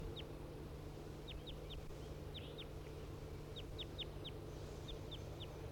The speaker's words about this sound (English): The wild bird right above the cages.